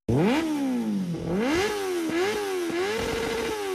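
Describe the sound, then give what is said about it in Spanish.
Loud motorcycle engines rev and whine, their pitch repeatedly climbing and dropping as bikes pass by on a street, some riding against traffic, riders without helmets and bikes without license plates, with a rattly buzz throughout and no voices. “Son muchos los riesgos que hay de accidentalidad en ese lugar, porque suben motos en contravía, bajan motos, personas sin casco, personas con las motos sin placas, se atraviesan los que están viendo, se atraviesan de un lado a otro.”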